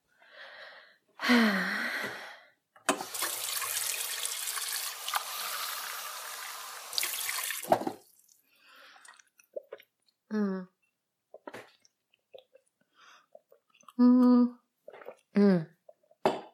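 Water pours steadily into a glass for about five seconds, followed by quiet swallowing sounds as a thirsty person drinks it and a few breathy gasps and sighs of relief.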